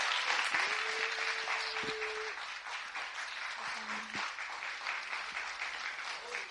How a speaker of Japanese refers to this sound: 大きなニューホープの温かい拍手をお迎えしてください。